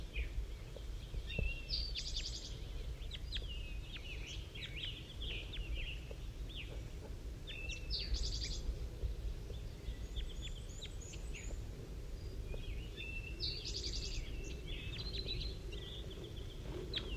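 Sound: bird calling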